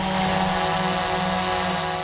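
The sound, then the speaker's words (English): Small hobbyist drone propellers whine in a steady, loud, high-pitched buzz with layered harmonic tones, holding constant throughout as if hovering, with no voices. “That's probably because drones really aren't that quiet. Even the small ones that hobbyists buy can be pretty loud.”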